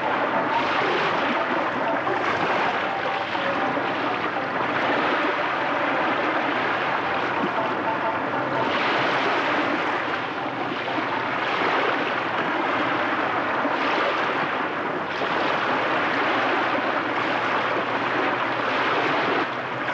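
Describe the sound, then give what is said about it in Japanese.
Steady ocean surf washes in continuously, a broad rushing roar with gentle swells rising and falling every few seconds, fairly loud with no voices. “個人的にこの波の音は黄色やオレンジ色といった優しいイメージがあります。”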